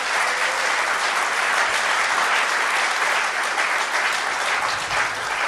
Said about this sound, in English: No i teraz możecie applaud. Now you can applaud.